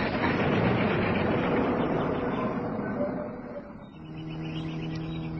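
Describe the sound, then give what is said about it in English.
The engine of a car following behind rumbles steadily on a twisting mountain road, dipping briefly near the end before settling back into a low, humming drone. No voices are heard. “Car behind us, I can hear it.”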